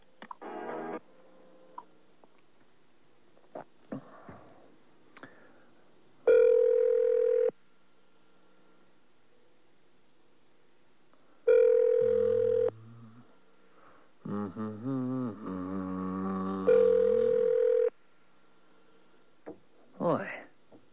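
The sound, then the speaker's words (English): A phone line rings back three times while calling a weather department; each steady electronic tone lasts about a second with several seconds between. Muffled voices and faint rustling fill the gaps. “Tired of ringing.”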